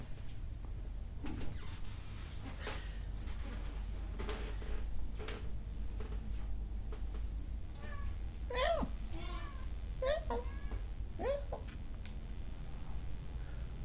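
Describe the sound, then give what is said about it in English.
A female cat meows several times in quick succession, rising, drawn-out calls over a steady low hum, with a few faint clicks and taps earlier on. “She meant to meow it out before she gallops.”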